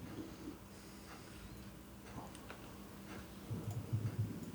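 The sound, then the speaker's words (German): Dice rolling: a few light, scattered clicks and rattles, quiet, over a low background hum with no one talking; the dice are rolled for a jump check in a game. “Würfel will nicht, doch.”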